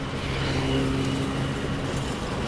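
A freight train of dozens of empty goods wagons, slowly pulled by a locomotive on the Betuweroute rail line, heard from above the track: a dense, steady roar with low droning tones, blended with heavy road traffic noise that holds loud and constant throughout, with no voices.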